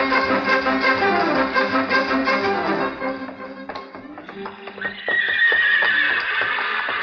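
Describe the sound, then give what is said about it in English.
Horses whinny loudly and repeatedly in the paddock at Churchill Downs before a big race, their neighs rising and falling, followed by a steady run of hooves clopping in quick rhythm with more neighing over it. “We're horses now, folks.”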